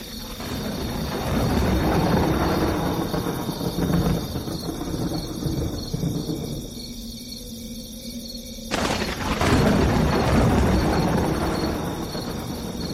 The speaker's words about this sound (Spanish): Comienza a batir una brisa fría y con ellas nubes negras que anunciaban fuertes lluvias. El relámpago y los truenos eran constantes.